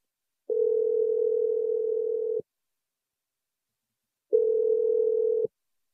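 A steady, mid-pitched telephone tone, heard while placing a call on a radio show, sounds twice, a long burst and then a shorter one after a pause of silence, clear and fairly loud with no voices.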